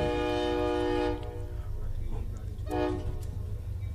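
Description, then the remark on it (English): A train horn blares in two long blasts, the first lasting about a second and the second shorter, over a steady low rumble of a train rolling past. “We're gonna let the train go by.”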